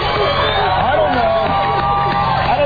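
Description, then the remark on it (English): A crowd of people in Sacramento, California chattering all at once, a steady, dense babble of overlapping voices with no single speaker standing out, holding at an even, fairly loud level throughout. “We got a crowd of people here.”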